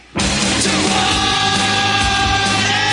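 A woman's loud, raw scream bursts in suddenly and holds for about three seconds, harsh and strained, sounding like it's coming through a played-back video.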